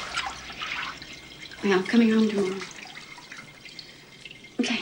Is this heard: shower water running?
yes